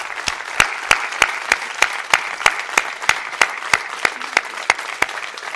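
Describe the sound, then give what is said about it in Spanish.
A large audience applauds the people of the UPN party steadily, a dense wash of clapping with sharper, evenly spaced claps standing out in a regular rhythm, sustained and fairly loud throughout with no talking. “Para darles un aplauso, un fortísimo aplauso, claro que sí.”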